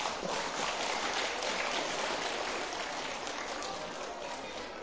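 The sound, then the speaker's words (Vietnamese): A crowd of children, listening to a talk by a teacher, claps loudly and steadily, a dense wash of hand claps that holds strong throughout with no pauses and no voices rising above it. “Nếu nỗ lực vượt qua vấp ngã, ủng hộ người vấp ngã trở thành một con người mới là có thể thực hiện được, thì các cháu hãy dành một tràng vỗ tay thật lớn.”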